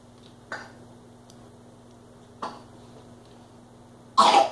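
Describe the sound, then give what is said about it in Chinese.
Three separate coughs spaced a couple of seconds apart, the first two short and moderate, the last much louder and harsher, over a faint steady low hum with no talking. “哎呦呦呦，咳嗽了。”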